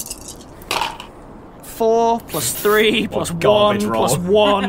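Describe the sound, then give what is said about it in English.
A short, light clatter of dice tumbling across a hard tabletop, quickly followed by loud, drawn-out vocal exclamations from people that dominate the rest. “Screw you, dice.”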